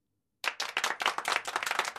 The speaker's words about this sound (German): Und hört endlich auf zu klopfen.